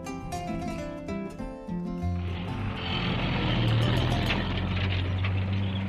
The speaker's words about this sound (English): The sound of the food lorry brings everyone crowding around the school building.